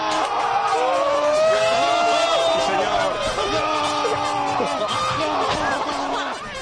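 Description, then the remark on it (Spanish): A large crowd screams and cheers in wild celebration after Fàbregas scores a penalty for Spain against Buffon in a semifinal, many voices overlapping in loud, sustained shouting that stays intense throughout. “Bueno, ya vemos un poco por los gritos cómo era el ambiente del momento.”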